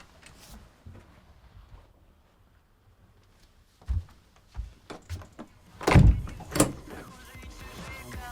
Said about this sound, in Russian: Закроешь дверь?